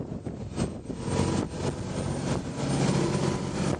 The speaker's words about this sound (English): So we're now heading out towards Egg, and the chase is on. I don't know if you can hear now, but very powerful Volvo engine on this boat. Oh, I say, and we're now picking up speed quite considerably.